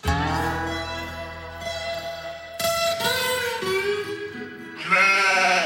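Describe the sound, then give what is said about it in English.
Goats bleat loudly, several long wavering cries overlapping one after another with barely a pause, no voices in between. “I'll show you my goats.”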